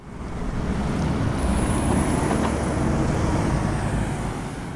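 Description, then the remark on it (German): Steady, continuous roar of traffic rolling past on the four-lane Otto-Suhr-Allee in Berlin toward Charlottenburg Palace, a dense low rumble of engines and tires with a faint high whine running through it. “Vierspurig rollt der Verkehr Richtung Charlottenburger Schloss.”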